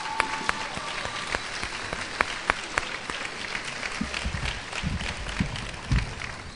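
A crowd in a church applauds steadily, many hands clapping in a dense, sustained wash with a few sharper claps standing out.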